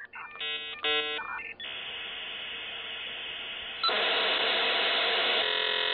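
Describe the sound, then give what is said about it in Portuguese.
Computer data cassette loading tones played from magnetic tape: a few short warbling beeps, then a steady harsh screech of data noise that grows louder midway and carries on without pause, with no voices. “E aí tinha um barulhinho bem característico, que você tocava a fita, você ouvia, que é aquele barulho que muita gente conhece, que é o barulho do modem.”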